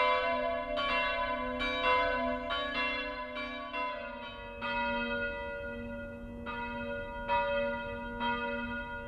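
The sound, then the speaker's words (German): Two church bells, dedicated to Saint John the Baptist and the Guardian Angels and acquired in 1954, ring together in a steady, overlapping peal, their strikes coming roughly once a second over a sustained, humming low tone. No voices are heard. “Geweiht sind die beiden Glocken dem heiligen Johannes dem Täufer und den Schutzengeln.”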